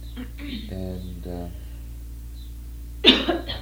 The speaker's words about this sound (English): and what you just did is called what? Cough.